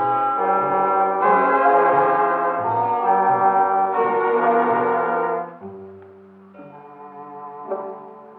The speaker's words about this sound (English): I suddenly awakened to hear the clock in the hall striking the hour. It was 4:00.